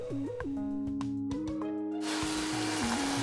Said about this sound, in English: Got another heavy one. Put him in the juicer.